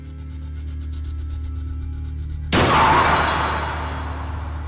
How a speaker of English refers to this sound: A car brushes by you and crashes into a tree. Nobody else seems to notice.